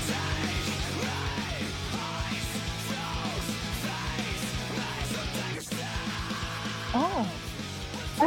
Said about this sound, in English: Well, you hear the anger there, and it's, I think that's kind of the scream that we're talking about here.